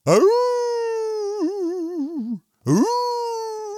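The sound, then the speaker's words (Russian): A person imitates a wolf howling: one long, loud, rising howl that wavers and sinks at the end, then a short pause before a second howl begins. “«Конечно, умею!» — ответил волк и завыл.”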